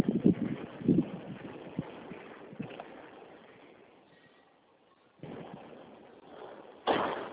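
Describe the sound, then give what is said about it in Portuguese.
Strong gusting wind roars and buffets in uneven surges, easing into a brief near-lull before returning, with a sudden loud gust at the end and no voices. “Que ventania do cão.”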